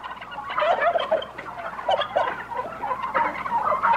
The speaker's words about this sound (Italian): Questo è …. Che ha scoperto che i tacchini, a cantargli una ballata, rispondevano a tono. e sono 300 cattivi tacchini di un allevamento.